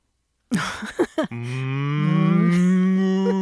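A cow lets out one long, loud moo, starting with a few rough, breathy grunts before settling into a sustained low, buzzing tone that slowly rises in pitch, with no talking.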